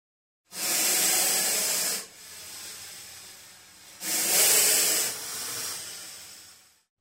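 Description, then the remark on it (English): A snake hisses in two long, loud breathy bursts, each tapering into a softer, sustained hiss. Clear, with no voices. “A snake.”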